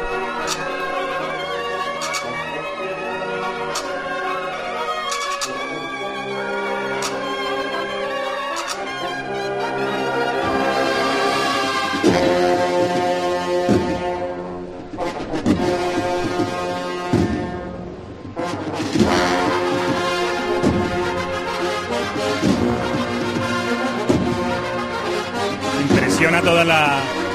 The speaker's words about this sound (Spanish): Todos los instrumentos, cómo suenan las trompetas, cómo suenan las cornetas de esta banda del Rosario de Cádiz.